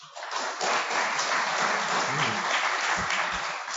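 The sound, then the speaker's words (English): An audience bursts into steady applause to vote that item number two, about the Chemical Abstracts Service and the 50 millionth unique chemical substance, is the fiction; a dense wash of many hands clapping at an even, sustained loudness for several seconds with no voices standing out. “Okay, if you think that number two about the chemical abstract service and the 50 millionth unique chemical substance is the fiction, applaud now.”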